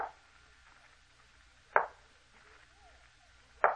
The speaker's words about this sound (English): There's no one outside the door. Someone knocked at the door. I think we must have been mistaken.